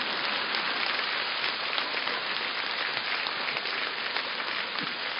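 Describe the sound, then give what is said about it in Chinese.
A steady wash of audience applause, many hands clapping densely and evenly at a fairly loud level for about five seconds, with no voices over it. “而我们现在的人连笑都是这么吝啬，连鼓掌都是这么吝啬。”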